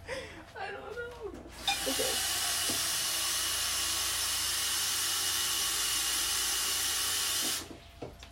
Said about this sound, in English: Anyways, so I'm gonna boil some water.